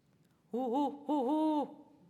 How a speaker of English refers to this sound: Hoo-hoo-hoo-hoo. Hoo-hoo-hoo-hoo. The guide told us that was a barred owl.